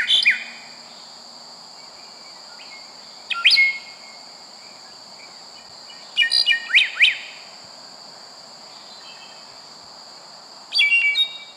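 Bright, high bird song arrives in short bursts of quick chirping notes, spaced apart over a steady high-pitched insect-like drone, with no talking.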